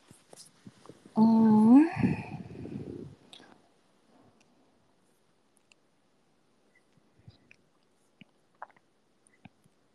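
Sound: gulping a drink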